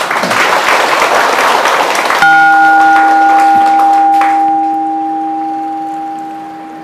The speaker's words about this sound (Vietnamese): Cho một tràng vỗ tay nữa nào.